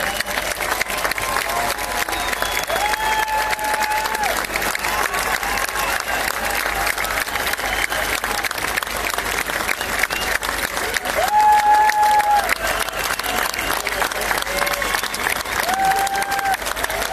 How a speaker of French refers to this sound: Merci, on a trouvé nos amis de Arte Valencia, qui malgré les limitations municipales, nous ont offert un très bel accompagnement, donc on les applaudit très fort.